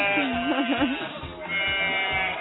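A single sheep bleat, fairly loud, with a shaky, wavering pitch that lasts about a second before trailing off into low background noise. No one speaks.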